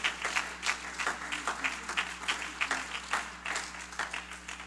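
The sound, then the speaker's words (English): A church audience claps hands to the Lord in sustained applause, a dense patter of many overlapping claps for several seconds at moderate volume. “You ought to clap your hands to the Lord today.”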